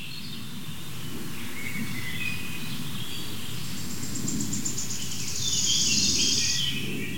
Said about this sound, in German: Warten wir noch mal ein Dü-Dü-Dü ab. Also es bewegt das Mikrofon wirklich nur marginal. Das ist der Vogel, der sich so krass bewegt.